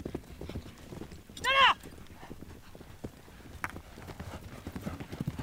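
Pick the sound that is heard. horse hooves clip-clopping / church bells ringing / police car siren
horse hooves clip-clopping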